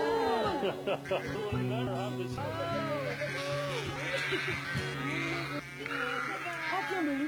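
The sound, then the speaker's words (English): A flock of sheep bleats continuously, many overlapping calls rising and falling, with a steady low drone underneath and a brief burst of indistinct voices. “My sheep hear my voice.”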